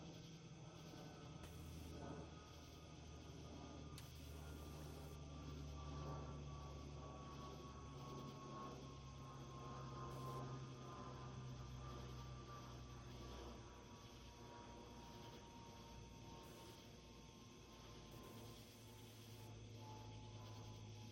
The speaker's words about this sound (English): But a plane flew over. This was later that same day. Again, quasi-binaural recording with a Jeclyn disc and the microphones like 8 inches apart. What all do you guys notice about the plane and the ambience?